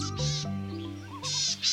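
A bird call of low, nasal, bleat-like notes with rich harmonics, broken up by breathy hissing bursts and a brief wavering warble, fairly loud with no voices.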